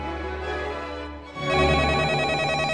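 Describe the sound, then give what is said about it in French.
A telephone rings in a museum with a steady electronic trill, growing louder and denser partway through, heard alone without any voices. “Ah, téléphone. Mais ça vient d'où ? C'est pas courant dans un musée.”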